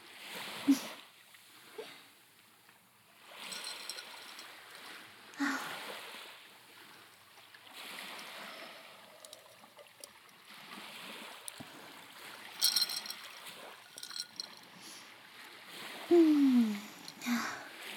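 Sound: sea water lapping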